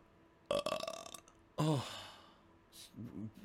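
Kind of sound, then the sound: human body sound, burp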